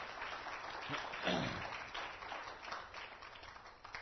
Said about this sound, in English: Thank you, choir. That's wonderful. Just flat out good singing today. Appreciate all of it. How many of you have enjoyed it? Let's give all of our singers and our musicians a round of applause for them.